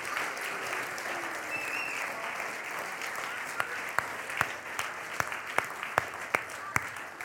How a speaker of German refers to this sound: Deswegen einfach nochmal einen kleinen Applaus für euch.